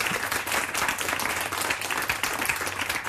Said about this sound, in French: Voilà, Adrien. Bravo. Vous pouvez applaudir à Adrien Gygax.